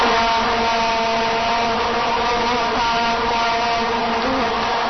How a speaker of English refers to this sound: That's not World Cup. That's me checking on my bees this weekend. Brought some audio, and it sounds a lot like the World Cup.